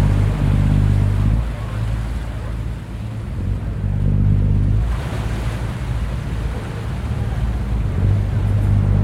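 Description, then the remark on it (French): A ferry returning from Gorée Island, Senegal, on a Sunday evening, very crowded, its engine droning low and steady, the hum swelling and fading, amid a continuous wash of waves and wind rushing across the microphone. “Ça, c'est le bateau qui revient de l'île de Gorée.”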